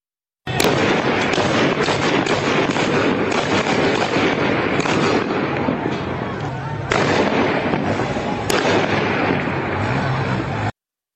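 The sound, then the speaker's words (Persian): Rapid, dense bursts of gunfire crackle almost continuously outdoors in the streets of Izeh, Iran, loud and sustained with sharp reports, a brief lull midway, then heavy firing again before cutting off. “همینطور که مشخص است تیراندازی شدیده.”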